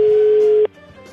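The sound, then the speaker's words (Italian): A single ringback tone on a phone line, a steady, fairly loud hum lasting about half a second before cutting off into faint line noise, with no one picking up. “Non risponde, non risponde.”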